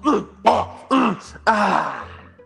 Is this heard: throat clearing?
yes